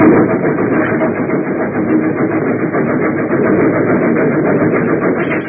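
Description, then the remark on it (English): A train rushes into a snow shed over winding mountain rails with a loud, steady, unbroken roar, its rumble filling the space evenly from start to finish with no voices. “Nearer and nearer it came, until finally the engine rushed into the funnel, and one by one the cars followed.”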